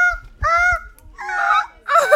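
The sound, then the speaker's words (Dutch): Seagulls, a typical sound of the Netherlands, call out in a quick series of loud, harsh, nasal squawks, overlapping, with short pauses between bursts and no voices. “Het levert vanzelfsprekende dingen op, zoals fietsbellen, maar ook minder vanzelfsprekende geluiden, zoals meeuwen.”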